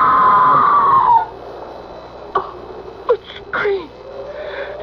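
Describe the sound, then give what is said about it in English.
A loud, drawn-out, high-pitched scream rings out at the start and falls away after about a second, followed by quieter, brief vocal sounds against a hushed background. “That was a scream, Sir Leonard. Not the wind playing tricks.”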